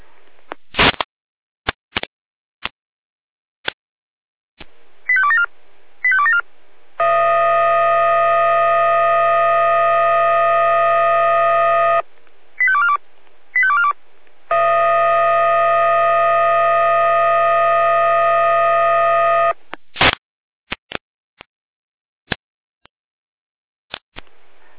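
Over a crackly radio channel, the Jena dispatch centre (Leitstelle Jena) alerts fire brigade units (Florian Stadtroter, Wache 2 and Wache 3) for a storm situation: sharp clicks and quick chirping tone bursts lead into two long, steady, siren-like alerting tones, each about five seconds, separated by more short chirps and followed by clicks.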